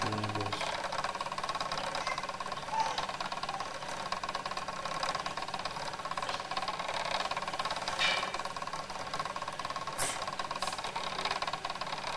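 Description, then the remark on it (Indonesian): A jeep engine runs steadily throughout, a continuous mid-pitched rumble with a faint mechanical rattle and knock, even in loudness, with no one talking. “Mobil bosnya yang jeep aja. Jeep. Oh, jeep.”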